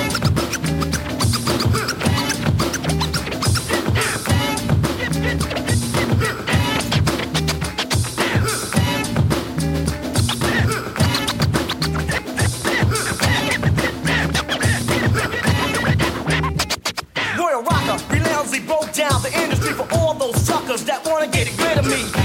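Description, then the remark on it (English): A DJ scratches a record rapidly and rhythmically over a steady beat, the vinyl dragged back and forth in quick bursts throughout, loud and continuous with a brief break near the end. “The record back and forth vibrates the dance floor.”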